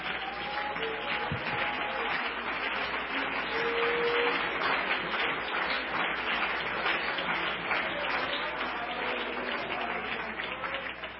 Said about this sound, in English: Come on, why don't we praise Him with a hand clap before we're seated.